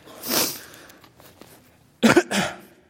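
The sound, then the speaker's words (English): A person coughs: one breathy cough, a short pause, then a sharp double cough with a quieter follow-up. No talking in between. “Sorry if I have a bit of cough.”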